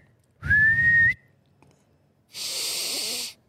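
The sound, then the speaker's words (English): A person whistles one short, steady note with a breathy edge, then there is a pause and a longer, airy hiss like a forceful exhale. There is no talking. “Or how do you spell the sound of a whistle is the other one.”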